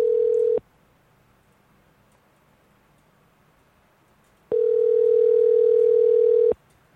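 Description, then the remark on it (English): A steady, clean telephone line tone sounds in two bursts while the caller hangs up and dials again: a brief one at the start, then roughly four seconds of silence before a longer two-second tone. No one speaks. “All right, I'm going to hang up and dial again.”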